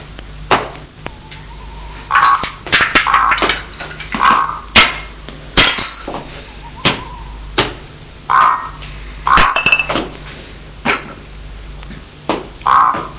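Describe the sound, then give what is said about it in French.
Dishes and cutlery clink and clatter irregularly as a table is set, with sharp knocks and a few bright ringing chimes of plates or glasses, and no talking. “Le couvert que l'on met.”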